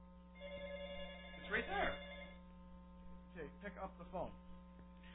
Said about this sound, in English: There's a phone call. Oh, okay.